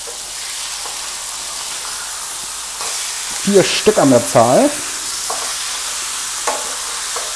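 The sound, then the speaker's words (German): Pork neck steaks sizzle steadily in a frying pan as a man fries them for his meal, a constant crackling hiss that fills the whole recording, with the man speaking briefly over it partway through. “Jetzt könnte es ein bisschen lauter werden, weil, wie gesagt, ich brutzel mir gerade was zu essen. Schöne Schweinenackensteaks.”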